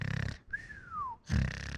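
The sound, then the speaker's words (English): A person imitates a high-pitched, pig-like nasal snore by vibrating the nasal area: a rough, fluttering buzz, a brief thin whistling breath that slides downward, then another loud buzzing snort. “When I vibrate my nasal area, it's like a higher pitch, more like a pig sound.”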